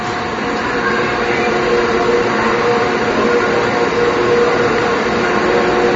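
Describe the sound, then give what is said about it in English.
Cable car winding machinery at the Cable Car Museum, driving four cables, one for each of the four cable car lines, roars steadily and loudly, a dense mechanical rumble with a faint hum running through it, continuous and unchanging for the whole stretch, with no voices. “So it's going to be a little too noisy in here to talk, but I'll take some pictures.”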